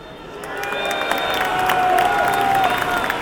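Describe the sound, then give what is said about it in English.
A large stadium crowd of Shakhtar fans in Glasgow applauds and cheers their team after the game, a broad wash of clapping with shouts and a sustained whistle-like tone rising over it, building slightly and holding loud throughout. “The Shakhtar fans who have managed to make it to Glasgow are so proud of their team and stay behind to applaud them after the game.”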